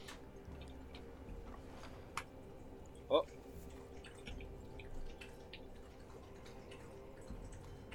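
A single clear drip of water lands with a short, bright plop, preceded by a fainter tick, over a steady low background hum.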